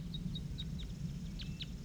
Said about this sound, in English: Male singing wild. I also hear more wild birds down the hollow.